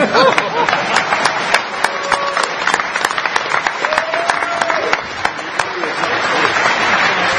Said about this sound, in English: Everybody want to clap for Dan Kaminsky, who's far too important to be here on time.